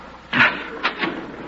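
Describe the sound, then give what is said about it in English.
A door opens with a broad, scraping rush of noise, followed by two shorter mechanical clunks or rattles, with no one speaking. “Open the door.”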